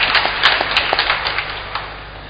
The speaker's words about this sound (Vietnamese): Chúng ta cảm ơn bằng một tràng vỗ tay thật lớn các vị đã giúp đỡ cho nhà thờ.